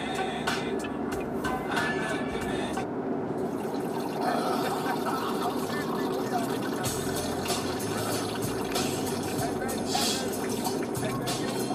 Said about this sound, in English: They really mic'd someone peeing for that bit, or that they just poured some water into something.